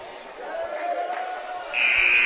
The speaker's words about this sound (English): And as you hear the buzzer inside, William J. and Evelyn B. Samford Gymnasium